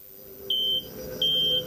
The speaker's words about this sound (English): When Han Solo and Chewbacca came out of hyperspace, 6 hours later, their comm system began to beep, signaling an incoming message.